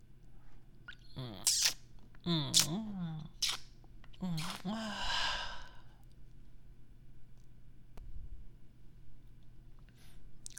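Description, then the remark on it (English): Heavy breathing: a run of loud, ragged breaths with voiced, moan-like catches over a few seconds, then quieter, softer breaths trailing off. “You're breathing so heavily.”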